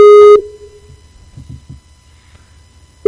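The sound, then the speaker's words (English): A Skype outgoing call ringing tone: a loud, steady tone burst cuts off abruptly, followed by nearly three seconds of quiet low murmur, then the tone starts again at the very end. “Answer the Skype.”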